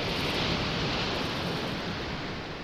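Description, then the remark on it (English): A steady, hissing wash of surf on a seashore, broad and continuous with no distinct individual crashes, fading slightly toward the end. No voices. “The other programmers called her software the Seashore Program because it ran so smoothly that it sounded like waves crashing on a seashore.”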